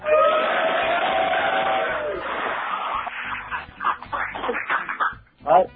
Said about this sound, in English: In the meantime, I just want to thank everybody for stopping into this really cool tent of the studio. And maybe we all give a big cheer to New York.